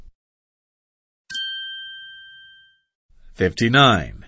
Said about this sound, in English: The bell is ringing. Game over.